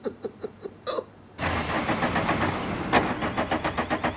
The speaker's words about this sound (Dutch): krijgt zijn auto niet meer gestart. Zeg, wat heb ik ermee gedaan, jong? Ik ben daarmee naar hier gereden, dat is alles.